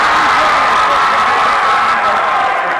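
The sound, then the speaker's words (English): A basketball crowd at a Port Washington versus Hicksville game erupts in a loud, sustained roar of cheering as Harris Sonoir hits his second three-pointer of the season. It is a dense wall of voices and shouts that holds steady for the whole few seconds, with no single voice standing out. “Crowd erupts as Harris Sonoir hits his second three-pointer of the season.”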